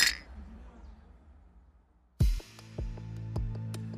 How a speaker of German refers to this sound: Dann noch einmal hoch das Glas. Auf Brot und Pudding.